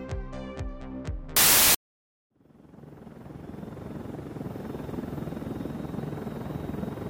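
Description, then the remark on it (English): After a brief chiming tone, a burst of static and a moment of silence, a helicopter's steady rotor drone swells in and keeps going, loud, with no talking; the helicopter was sent to pick up passengers. “I can't believe Sebastian sent a helicopter to pick us up.”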